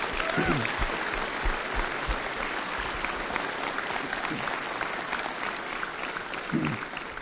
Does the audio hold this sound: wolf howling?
no